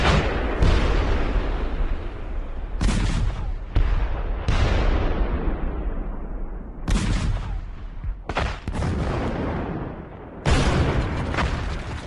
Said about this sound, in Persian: همین حالا هم جنگ خیلی جدی شده. توپخانه ها یک دیگر را به شدت زیر آتش گرفتن و صدای شلیک و انفجار ها قابل تشخیص نیست. خمبارا هم بیکار نماندند و علاوه بر کوبیدن یک دیگر، خطوط جلوتر را نیز نشان روی می کنند.